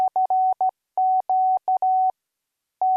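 A steady, mid-pitched beeping tone keyed on and off in Morse code on an amateur radio transmitter in the 80-metre telegraph band, sent through a dipole antenna to call CQ. It mixes short dots with longer dashes in a quick rhythm, then pauses before one last beep. No voices.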